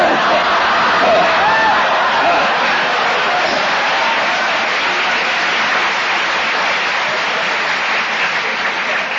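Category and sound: crowd, audience clapping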